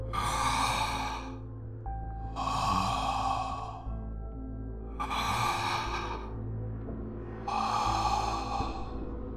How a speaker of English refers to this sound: Up the stairs, down the hall, and right up to the door in front of me. The handler waited there a few long seconds, breathing hoarsely, almost menacingly.